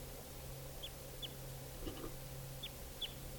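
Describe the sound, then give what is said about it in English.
At least two wild birds perched in trees give a few short, high, downward-sliding chirps in loose pairs, faint, over a steady low hum with no one talking. “Now they're perched up in the trees.”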